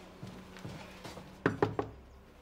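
A few soft, muffled thumps, then three quick, firm knocks on an upstairs door in a steady rhythm, fairly loud, with no voices.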